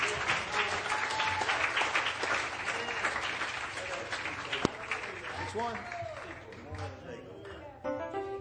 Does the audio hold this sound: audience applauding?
yes